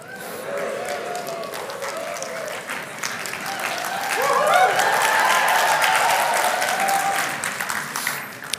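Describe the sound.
Sustained applause from a crowd, with some clapping harder in response to the speaker's gesture. A dense wash of clapping swells louder midway before tapering slightly, with faint voices murmuring underneath.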